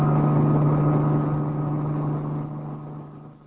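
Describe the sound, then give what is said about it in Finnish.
A helicopter descends to land at the edge of a village, its rotor downwash splashing clay mud high, with a loud, steady mechanical drone and a strong low hum, its roar slowly easing and growing quieter toward the end as it settles. “Potkurin ilmavirta roiskuttaa savivelliä korkealle, kun helikopteri laskeutuu kylän laitaan.”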